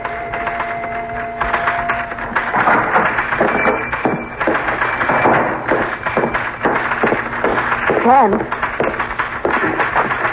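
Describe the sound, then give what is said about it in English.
Rapid, irregular clacking of typewriter keys, a dense run of sharp mechanical strikes that continues steadily for several seconds with only brief pauses, as someone types the story of what happened last night. “I'm beginning to feel jealous of that typewriter.”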